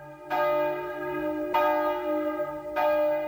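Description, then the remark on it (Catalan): Large church bells ring out in three strong, evenly spaced strikes, each leaving a rich, humming resonance that hangs in the air before the next toll. “I vinga a repicar!”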